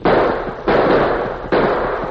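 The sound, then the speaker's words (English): Three loud gunshots fired on a ranch at two men running for their horses, in irregular succession, each a sharp crack followed by a long, rumbling decay that bleeds into the next shot. No voices are heard. “They jumped for their horses when I yelled at them, so let them have it.”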